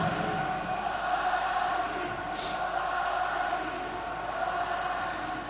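crowd, stadium crowd applauding

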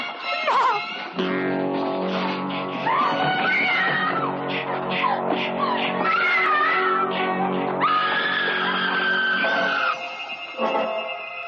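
sound effect, scream

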